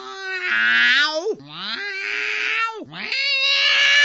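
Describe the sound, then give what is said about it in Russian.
A human voice imitates a cat, letting out three long, wavering yowling meows in a row, loud, each sliding in pitch before the next begins. “Соскочил кот с печи, зафыркал, замяукал.”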